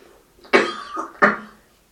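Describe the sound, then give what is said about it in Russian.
Two short, sharp coughs, the second following the first after about half a second, with no talking around them. “Я сама тут пыталась покашлять, но передумала.”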